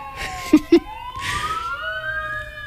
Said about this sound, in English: There's a lot of goings-on out there. It's always nice to have sirens in the background.